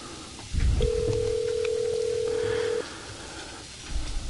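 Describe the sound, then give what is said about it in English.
A single steady telephone tone hums for about two seconds, like a call ringing on the line, over a low rumble of background noise with no one speaking. “I have to get the guy's phone number out. And we'll set it up before your very ears.”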